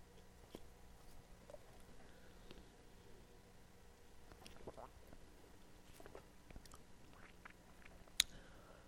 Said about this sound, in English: I'm just going to give you just a second, A, because I need a drink of water, and B, because I want you to think about it.